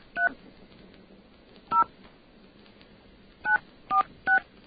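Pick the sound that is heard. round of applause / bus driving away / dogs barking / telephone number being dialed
telephone number being dialed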